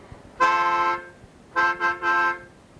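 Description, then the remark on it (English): A loud, brassy trumpet blast, played as the fifth trumpet: one long held note, then after a short pause three quick bursts at the same steady pitch, with no voices. “So may we hear the fifth trumpet of truth, please.”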